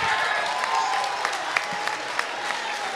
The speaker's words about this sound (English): Don't clap for that goofy ass nigga.